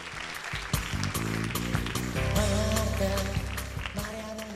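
Applause for a crew member on the show Despierta UMH at Jesuitas de Alicante rings out over a loud, steady burst of music with sustained chords, the clapping adding sharp crackling hits throughout the few seconds.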